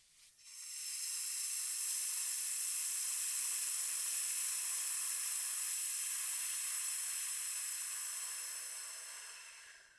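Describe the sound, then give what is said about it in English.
In a breathing exercise, a person exhales on one long, steady hiss syllable lasting about nine seconds after a deep breath into the belly and back, mouth barely open, pushing down and out; bright and airy, holding an even level before slowly tapering off at the end. No talking. “And then we slowly release on a hiss syllable, pushing down and out.”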